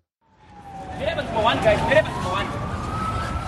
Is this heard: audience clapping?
no